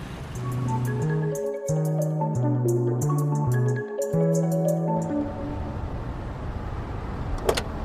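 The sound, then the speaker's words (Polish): A car maneuvers into a parking spot by the door in a crowded courtyard in Poznań, its engine whining in short rising and falling steps before settling into a steady low rumble, with a brief click near the end. “Dobra, tam dawaj pod drzwi, najwyżej przeparkujesz.”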